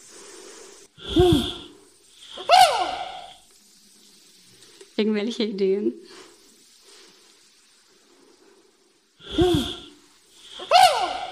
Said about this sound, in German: Der Schimpanse, der kombiniert nämlich seinen Alarmhuhruf und sein Warbellen zu dieser Kombination. Und das macht er genau auch, wenn er eine Schlange sieht.